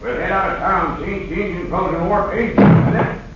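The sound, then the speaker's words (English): A man talks, then a single solid bump rings out near the end as a gun knocks against a door, like against a wooden door, louder than the voice. “Hey, Straight Arrow, my gun. It bumped up against the door.”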